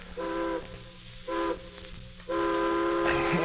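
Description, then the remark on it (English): A steam train whistle sounds three times from a distance in the morning, two short blasts followed by a longer one, with a faint background hiss and no voices. A train in the American West. “And the next morning, a distant train whistle wakened me.”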